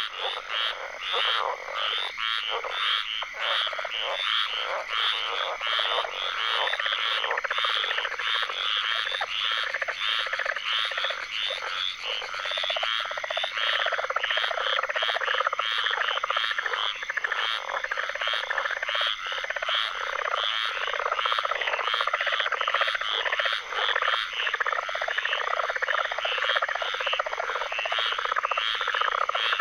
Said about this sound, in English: We leave you this week with a riveting chorus. Lang Elliott and Ted Mack captured this tree frog serenade in Apalachicola, Florida, for their ….